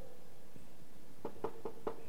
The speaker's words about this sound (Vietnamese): Buổi chiều hôm đó có một tiếng gõ cửa.